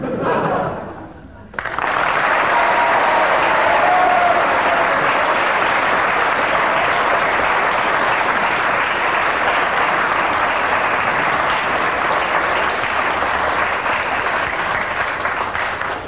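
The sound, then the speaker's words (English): Half-hearted audience applause starts after a brief pause and carries on at a steady, even level for roughly fourteen seconds, a dense patter of many hands clapping without building or cheering. “Ten seconds of rather half-hearted applause there, giving him three marks.”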